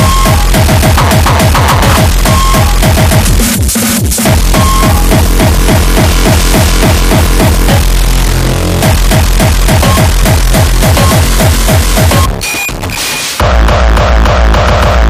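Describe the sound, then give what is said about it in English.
A loud, harsh vibrating test signal that throbs in rapid, regular pulses, dense and distorted across the range, with a couple of brief dropouts before it resumes. “Vibrating source.”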